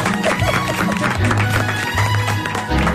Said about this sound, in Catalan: por favor, un aplaudiment